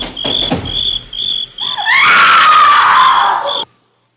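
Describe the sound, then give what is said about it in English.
A woman's loud, piercing scream rises sharply and holds for about two seconds before cutting off abruptly, preceded by steady rhythmic chirping of crickets in the night, heard by people driving a car in the CBS Radio Workshop radio drama Grief Drives a Black Sedan. “Sounds like a woman screaming.”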